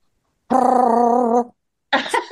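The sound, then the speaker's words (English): A voice imitates a drum roll before vote totals are announced, a buzzing, rapidly rolled trill held for about a second, followed after a short pause by a briefer, rougher voiced burst. “Do we have an audio of a drum roll, anyone?”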